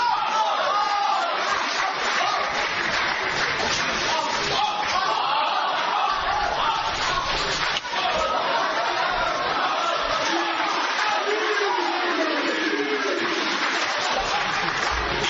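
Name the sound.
audience applauding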